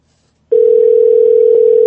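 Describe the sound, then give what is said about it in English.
A steady, unbroken telephone tone switches on after a brief silence and holds at an even, moderately loud level as a phone call is placed to Senator John Cornyn's office. No voices are heard. “So we're making the phone call to Senator John Cornyn's office.”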